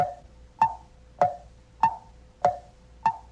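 A clock ticks steadily, five or six sharp, evenly spaced ticks about every half second, with no talking and only a faint background hum.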